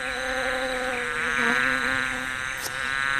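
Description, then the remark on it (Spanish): Steady insect buzzing with a rich harmonic drone of bees gathering nectar from flowers in a garden, rising slightly in intensity midway and continuing without pause; no voices. “Las abejas acariciaban las flores para tomar de ellas el más sabroso néctar.”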